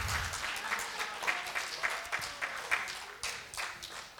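An audience claps together in steady, continuous applause, a dense patter of many hands with a few sharper claps standing out, holding fairly even in loudness throughout.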